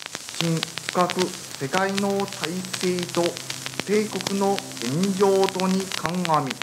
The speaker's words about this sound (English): People told us to listen to the radio 12 noon. They tuned in. At first, it was just static. Then, a voice.